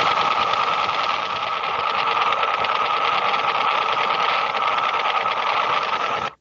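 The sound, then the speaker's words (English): Russian woodpecker radar interference on the 20-meter shortwave band: a loud, steady, rapid tapping buzz, like fast mechanical knocking through radio hiss, running unbroken for about six seconds before cutting off abruptly. “Here's what the Russian woodpecker would have sounded like on 20 meters.”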